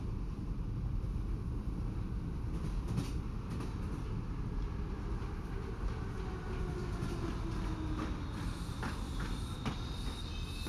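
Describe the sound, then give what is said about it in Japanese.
A train rolls steadily along the rails after dark, nearing its last station of the day, with a constant low rumble, faint metallic clicks and squeals surfacing now and then, and no voices. “そろそろ本日最後の駅に到着します。”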